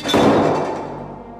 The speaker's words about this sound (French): Noé, sa famille et tous les animaux désignés par Dieu entrent dans le bateau. Dieu lui-même ferme la porte derrière eux.